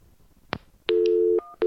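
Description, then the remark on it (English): Electronic telephone line tones after a disconnected call: a short click, then a sustained steady beep lasting about half a second, followed by another brief tone, clear with no voices. “Your call is disconnected. To make any further calls, please disconnect and dial.”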